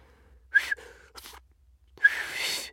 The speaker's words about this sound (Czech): Tedy aspoň zkoušela si pískat, protože se to naučila teprve včera a ještě to neuměla tak dobře, čili pískání znělo trochu podivně.